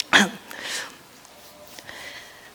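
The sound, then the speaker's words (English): One sharp, loud cough from a preacher during a sermon bursts out, followed by a softer, breathy rasp as the breath trails off, then near silence with only faint rustles. “I have another thought, but I got a cough.”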